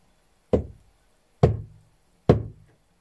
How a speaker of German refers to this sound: Schließlich fasste es sich ein Herz, ging zu dem Häuschen und klopfte vorsichtig an die schwere Holztür.